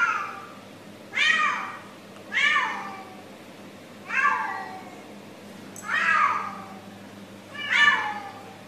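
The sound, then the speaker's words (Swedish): A cat yowls five times in a steady rhythm, each long, wavering cry sounding muffled, recorded from outside an apartment's front door with the cat inside, with a low hum underneath. “Ja, alltså det låter ju, katten är olycklig av någon anledning.”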